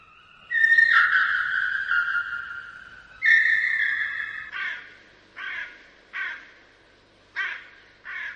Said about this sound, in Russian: Кто это картавит над крышей дома? Ворона. Ее не узнать невозможно.